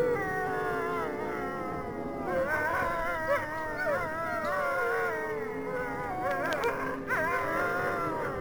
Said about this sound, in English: The wolves, they must be after my soul.